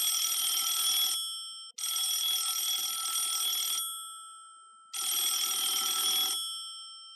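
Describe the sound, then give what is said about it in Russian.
A telephone rings in three loud bursts of bright metallic jangling, separated by short pauses, with no voices around it. “На следующее утро малыша разбудил телефонный звонок.”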